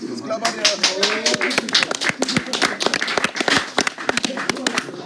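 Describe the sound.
Applause from an audience: many sharp, irregular hand claps in a steady dense patter, with voices talking and calling out underneath throughout.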